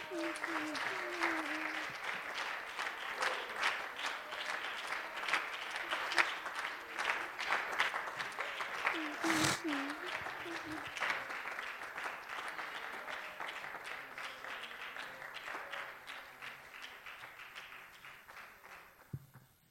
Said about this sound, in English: One more time, can we applaud the Lord for his goodness?